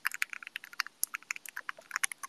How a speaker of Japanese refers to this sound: めちゃくちゃいい音するやろ。My keyboard makes such a nice sound. The current switches I use areGateron Black Ink V2s with a 60 gram spring inside, but I think I'm gonna go somewhere lighter this time.